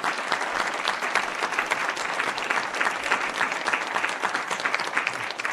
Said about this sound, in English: But thank you. Let's get a round of applause for all the candidates.